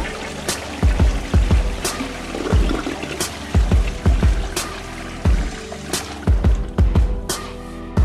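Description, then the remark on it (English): A toilet-flushing sound effect for the Friday 'Flush the Format' segment of The Kid Craddock Morning Show, with a watery rushing whoosh over a steady pattern of deep rhythmic thumps and sharp hits that continue throughout, fairly loud, with no voices. “It's time to flush the format.”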